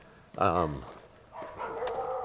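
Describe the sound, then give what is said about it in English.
One of the neighbors' dogs lets out a single loud bark, followed by a longer, quieter drawn-out whine or howl from the neighbors' other dogs. “our neighbors have some dogs over here, so you're going to hear them barking.”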